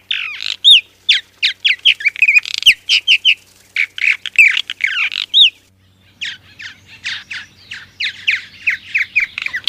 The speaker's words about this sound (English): The purple marten's song is a wonderful liquid blending of chitters, whistles, and clicks. Males greet the morning with their dawn song.